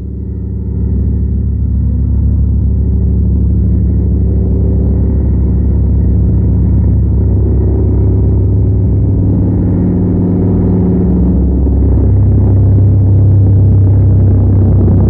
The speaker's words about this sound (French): Tout d'un coup, un gros avion passe ras de la maison. Un avion!